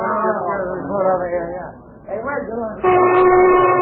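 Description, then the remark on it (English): Voices chatter, then a loud, steady factory lunch whistle cuts in and holds a sustained, bright tone through the final second, dominant. “There's a lunch whistle”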